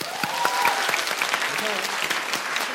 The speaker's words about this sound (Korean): 예, 이쯤에서 파트 1이 끝난 상태에서 현재 스코어는 연재원 초 팀의 연초 팀은 0점. 억필팀 30점입니다. 박수 주세요.